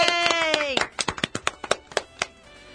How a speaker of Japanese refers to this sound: 今日で第328回目開始の拍手。イエーイ。